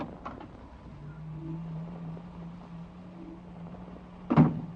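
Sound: door opening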